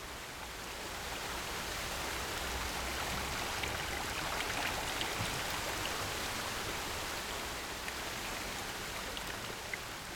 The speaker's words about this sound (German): Der römischste aller Münchner Brunnen. In seiner Mitte der doppelschalige Brunnenkelch. In feinen Fäden ergießt sich das Wasser ins Brunnenbecken.